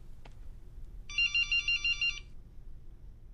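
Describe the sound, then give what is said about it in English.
A telephone rings with a single burst of rapid, high-pitched electronic trilling pulses lasting about a second, set over a low background hum, with a brief click just before. “Don't answer that.”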